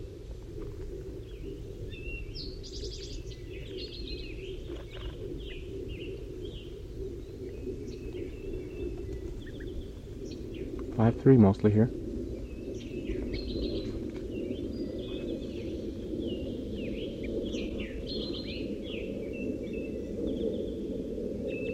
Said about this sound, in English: One of the wild birds is coming in now. I just saw it land in the pine tree. 5-3's calling to it.